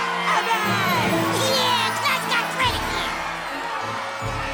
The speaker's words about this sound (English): Kids jump and run around the hallway.